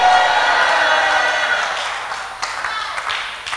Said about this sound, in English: Shout the loudest amen, somebody.